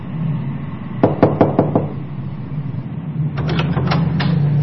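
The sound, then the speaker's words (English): Two quick bursts of knocking on an apartment door at night, about four or five raps each, loud over a low steady background hum, with a short pause between the sets. “One night, there is a knock on the door of the apartment he shares with Jay.”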